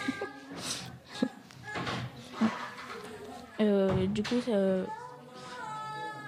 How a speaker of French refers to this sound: Et là, j'entends ma fille qui pleure dehors.